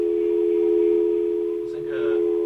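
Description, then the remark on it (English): A steady, unbroken telephone dial tone on a radio call-in phone line hums loudly throughout, with a brief muffled rustle or disturbance breaking through near the end. “Now I'm going to play that dial tone again. And you hear this noise?”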